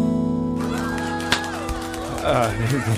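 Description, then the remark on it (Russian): One sharp, crisp hand clap rings out partway through, standing out briefly against a steady backdrop of sustained, tonal music-like sound that continues throughout. “Я хлопнул в ладоши раз и решил подвинуть микрофон.”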